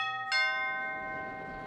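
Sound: doorbell ringing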